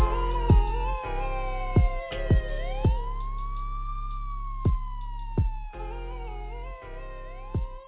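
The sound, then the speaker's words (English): A police siren wails in long, slow rising and falling sweeps, fairly loud and steady, over a low rumble with occasional sharp knocks cutting through. “Ambulance, cop sirens, somewhere around.”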